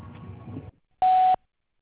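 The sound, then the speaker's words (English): A short stretch of muffled sound gives way to a brief pause, then a single loud, steady voicemail beep on the answering line of Powerhouse Church in Bakersfield, California, rings out for about a third of a second and cuts off cleanly. “If you'd like to leave a message, please do so after the beep.”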